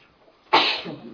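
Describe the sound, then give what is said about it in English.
A single sharp sneeze bursts out suddenly after a quiet moment, loud, trailing off into a brief breathy tail with faint murmur. “Bless you.”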